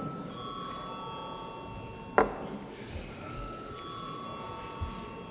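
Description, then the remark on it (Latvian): A steady electric bell rings continuously in the Latvian parliament before a vote on a bill, fairly quiet and sustained, with a brief clunk partway through and faint murmur underneath. “Lūdzu zvanu.”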